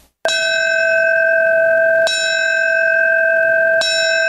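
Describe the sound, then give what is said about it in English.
A New York City Fire Department bell rings three times, the traditional signal for a fallen firefighter, each strike clear and sustained with a long shimmering decay overlapping the next, loud with no voices. “The ringing of the New York City Fire Department bell, the traditional signal for a fallen firefighter.”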